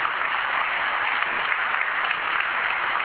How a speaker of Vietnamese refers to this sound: Xin một tràng vỗ tay thật lớn.